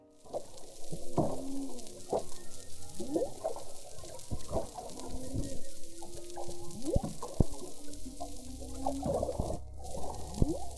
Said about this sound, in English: Now in this last recording, you can hear a couple different humpback whale calls, and also you can hear the waves hitting the boat again. Listen.